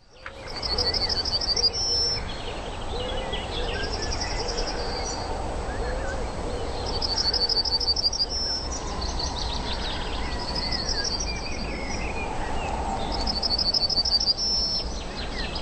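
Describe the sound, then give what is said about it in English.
A yellowhammer sings short, high trills of rapidly repeated notes, roughly every three seconds, over a steady hiss of broad background noise. No one speaks. “That bird is the yellowhammer, and if you hear it, it's call.”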